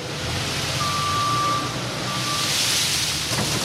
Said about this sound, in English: The storage room at McCleskey Mills in Smithville looks like an airplane hangar. A front loader is moving a mountain of peanuts into underground storage.